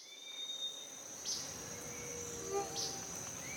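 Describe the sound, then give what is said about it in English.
Rainforest ambience in Panama filled with steady, high-pitched chirping insects, a continuous shrill drone with a few brighter chirps popping out, moderately quiet and with no voices. “Today, we're going to a rainforest in Panama.”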